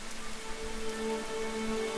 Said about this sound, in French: Les violons et les harpes chantent doucement, et bientôt, la fillette s'endort au son de la pluie.